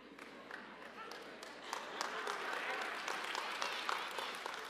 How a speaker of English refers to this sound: An applause for that? You all are so mixed up today.